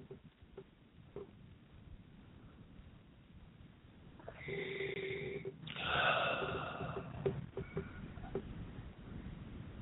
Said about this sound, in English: So I'm just breathing. I'm breathing through this. Just breathing.